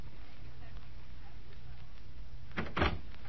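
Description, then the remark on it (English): A front door opens with a short double clatter of the latch and frame, sharp and brief, after a few seconds of low, steady background rumble. “Yes, it's the front door.”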